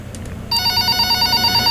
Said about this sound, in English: That's a fake calling noise, yeah. It's a terrible noise. Has anyone ever heard a phone ring? That sounds like a phone.